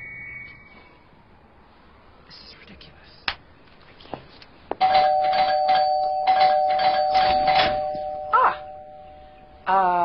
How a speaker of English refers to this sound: Ah! I can hear your cell phone ringing!